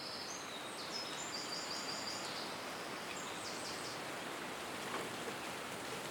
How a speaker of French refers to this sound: Et nous voilà au printemps. En tendant bien l'oreille, on entend toujours le bruit des oiseaux derrière le sifflement du vent.